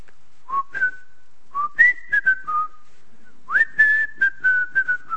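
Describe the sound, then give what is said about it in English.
A person whistles a jaunty march tune alone, clear, in three short phrases with bright sustained notes and quick little trills between pauses. “But I remember when I used to work in industry that I used to go around and people would whistle this tune.”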